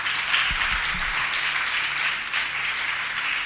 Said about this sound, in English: Amen. Yes. Yes. Clap your hands. Yes.